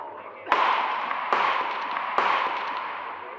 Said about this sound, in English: I'm going to shoot the padlock off the door.